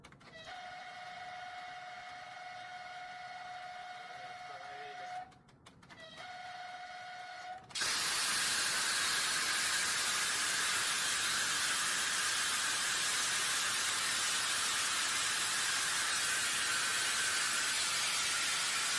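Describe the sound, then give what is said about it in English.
A high-speed train's siren sounds as a steady, piercing tone with a brief break as the train stops with its emergency brakes because Russian tanks are crossing the rail, then cuts to a loud, sustained rushing hiss like air venting that continues to the end. “But here we see a little conflict between the train system and Russian tanks as they are trying to pass across the rail, and this has forced this high-speed train to stop with the emergency brakes. You'll see, it will be It will be sounding is siren.”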